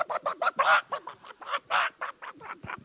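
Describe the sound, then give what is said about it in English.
A person imitates a squawking chicken being pulled backwards by its tail feathers while eating, letting out a rapid, uneven string of about a dozen harsh, nasal clucks and squawks, fairly loud, with no other talking. “And I'd go out there, and them chickens start eating, and I'd get them by the tail feathers, and I'd pull them backwards. They go.”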